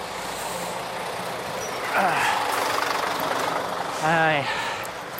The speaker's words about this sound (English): Skip lorry trying to do a 3-point turn in front of me onto the pavement.